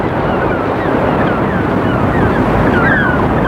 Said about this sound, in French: Avec des rafales de vent.